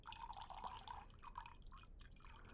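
Wine pours steadily into a glass, a continuous trickle with bright gurgling and small splashes that rises and flickers over a couple of seconds, with no voices. The wine is a top-grade product of Zerikania.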